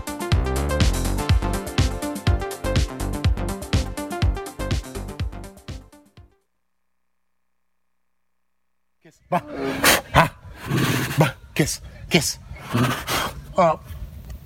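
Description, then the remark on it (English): A tiger at a ranch chuffing: a quick series of breathy, puffing snorts, following a few seconds of music and a brief silence. “Well, the noise you're listening right now is the sound of a tiger at Caddyshack Ranch. It's called chuffing.”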